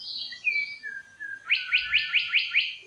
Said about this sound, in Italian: Qui invece non abbiamo le aquile, ma abbiamo uno scricciolo, ascoltiamo ancora. Uccello molto musicale che possiamo ascoltare anche in Italia.